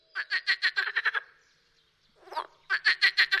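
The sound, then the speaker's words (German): Rapid bursts of frog croaks, several quick pulses in a row, a short pause with a softer call, then another fast series of loud croaks. “Die anderen hassen sie, weil sie so viel Lärm machen. Frösche.”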